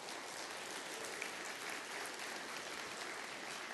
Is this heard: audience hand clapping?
yes